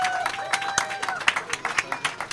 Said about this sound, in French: Merci à nos invités d'être venus au milieu de ce week-end où il se passait beaucoup de choses. Oui, on peut les applaudir, la foule en délire derrière vous.